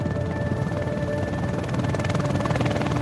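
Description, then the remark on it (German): A helicopter's steady rotor drone fills the air, a continuous low thudding hum with a faint whine above it, holding fairly loud and constant as the aircraft draws near, in Neukölln, Berlin, where hospital staff stand ready to care for patients. “Kann der Hubschrauber kommen?”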